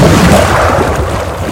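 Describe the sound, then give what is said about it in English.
A diver seated on the side of a boat falls backwards into the water: a loud, booming splash followed by a deep, churning rumble of water and bubbles, continuous, with no voices. “Seated on the side of the boat, he falls backwards into the water.”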